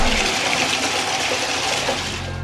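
A urinal flushing: a loud, steady rush of water that pours continuously for a couple of seconds, with no voices.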